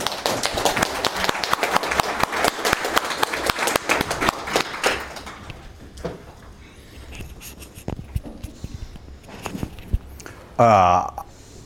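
An audience of about 50 event attendees applauds a special guest speaker, the original inventor of Puppet. The applause is loud and dense for several seconds, then fades to scattered claps and faint taps, followed by a brief louder tonal sound near the end.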